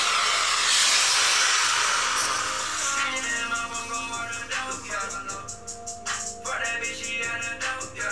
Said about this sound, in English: So what I just did was I just twisted the end of my cracker and it released the gas that was in the canister that was sitting inside of it into the balloon. And now the gas is in the balloon